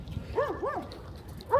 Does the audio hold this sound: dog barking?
yes